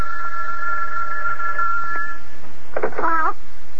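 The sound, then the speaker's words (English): A telephone rings with a steady, buzzing electronic tone for about two seconds, clear, then stops; a brief, high, voice-like sound follows just afterward. “Oh, telephone's ringing.”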